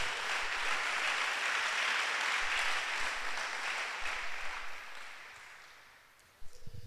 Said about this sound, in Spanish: Damos un aplauso a Dios, por favor, para que no nos durmamos, pero fuerte.